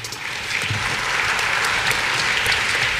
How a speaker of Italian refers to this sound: Applauso.